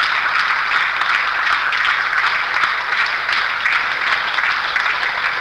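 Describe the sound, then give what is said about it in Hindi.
A crowd applauds continuously, many hands clapping at once in a dense, steady wash of sound that holds an even loudness throughout, with no voices heard. “सो ये जो तालियां हैं, जो पहले की नेगेटिविटी हमारे यहाँ पे फीड है, उस नेगेटिविटी को वास करने के लिए बार बार बजाई जाती हैं।”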